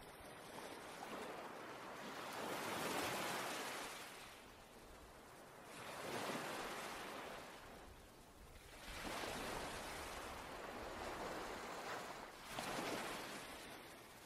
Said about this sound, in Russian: Теперь смотрите, как волна набегает на берег, омывает ваши щиколотки, а затем отступает обратно, унося с собой ваше послание.